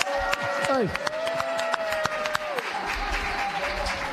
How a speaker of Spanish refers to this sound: Y aplausos para Santiago Apóstol.